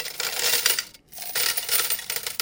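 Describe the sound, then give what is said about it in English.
Coins clatter and jingle in bright metallic bursts, a short pause in the middle before another spill of clinking coins. Loud, with no voices. “Eventually, these objects became more formalized and they turned into coins.”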